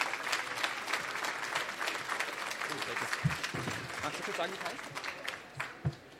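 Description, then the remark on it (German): Sustained audience applause as authors are called onto a stage, a dense crackle of many hands clapping at a steady moderate level, with a few louder thumps and faint voices mixed in underneath. “Und einen Applaus bitte.”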